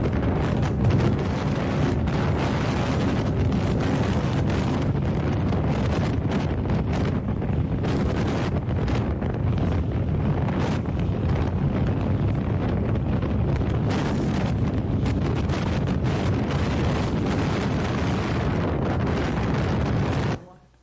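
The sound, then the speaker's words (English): Loud, constant wind buffeting a microphone while driving on a road, a dense low roar with gusty rumbling and crackling bursts that never let up for about twenty seconds before cutting off abruptly. “I don't know if you can play it from the back there. If it doesn't work, that's fine. It just, that's wind.”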